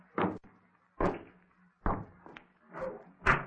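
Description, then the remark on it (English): A door is shut again and again, about five solid thumps spaced roughly a second apart, fairly loud, with no voices. “Open it and go into the hall for a moment. And then, instead of shutting the door behind you, you will crawl back into the room on your knees and shut it from the inside.”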